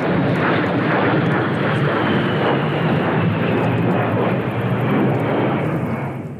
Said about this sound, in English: The A-10 Warthog is a loud jet fighter plane.